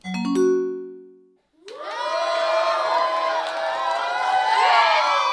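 A sustained roar of crowd cheering and shouting over a radio broadcast as crowds before the Parliament on the Ringstraße celebrate Austria becoming a republic for the first time, many voices whooping together, preceded by a single low tone that fades away before a short pause.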